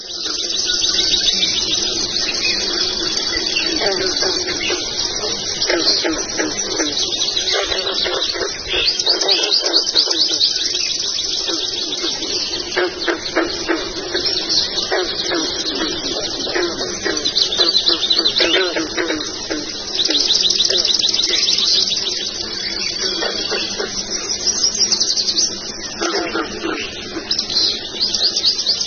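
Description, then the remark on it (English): A dense dawn chorus of many birds singing at once, overlapping chirps, trills and whistles filling the air continuously, with a soft dove-like cooing low underneath and no voices. “So what I'm about to play you is a little soundbite from the researchers who actually recorded a dawn chorus.”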